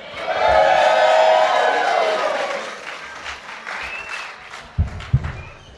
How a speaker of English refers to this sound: Ladies and gentlemen, we thank you so much for coming out this evening. And give a nice round of applause for these wonderful musicians.